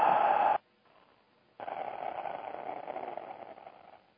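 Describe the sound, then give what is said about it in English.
During a breathing exercise, a short breathy rush cuts off, then after a pause a long, steady, airy exhale through the mouth follows, fairly loud, with a faint raspy edge, and no talking. “we're still going to tighten the muscles as if we're making the ha sound”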